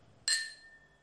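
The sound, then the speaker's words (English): A single bright clink of glasses of sparkling wine touching in a toast, sharp, its high ringing tone lingering and fading over a second with no talking. “Clink's okay, I guess.”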